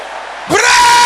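After a brief quiet moment, the men of a church prayer audience burst into a loud, sustained shout, a single roaring cry that fills the space and holds at full volume.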